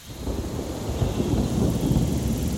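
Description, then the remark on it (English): Steady rain pours down in a patch of forest near a village, a dense continuous patter with a deep rumbling undertone like thunder, holding an even, fairly loud level throughout with no voices. “And as we walked in, it started raining, which is perfect because that's when these frogs start calling.”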